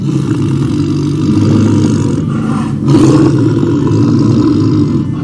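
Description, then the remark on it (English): A tiger that was sleeping on a path and was stepped on gives a loud, deep roar that rumbles continuously for several seconds, thick and growling with a slight surge partway through, with no voices over it. “As Lord Chaitanya was walking along, deep in thoughts of Lord Krishna, he unknowingly stepped on a tiger that was sleeping on the path.”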